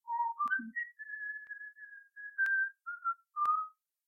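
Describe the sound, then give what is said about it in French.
Someone whistles a short, light tune: a few pure, wavering notes that slide between pitches and hold briefly, with small clicks between phrases and no talking. “Donc le petit tailleur, le matin, se lève et se met à siffloter un petit air.”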